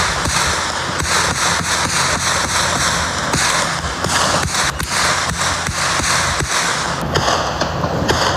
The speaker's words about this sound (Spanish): El silencio propio de las primeras horas del día se rompió con el tronar seco de los disparos.